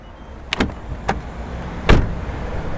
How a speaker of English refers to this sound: This journey starts on a cold, crisp morning in Ross Grey. Pulling up outside the Abbey Hall, a woman's waiting for the 20-9 bus to Limerick.